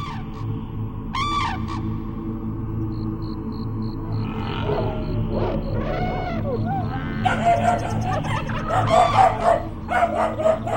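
A chorus of wild animal cries, trumpeting elephants, chattering monkeys and growling tigers, rising over a steady low rumble and growing louder and busier toward the end.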